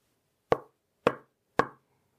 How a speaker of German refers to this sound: Was war das? Irgendetwas klopft an ihre Wand. Ist es ihre Mutter?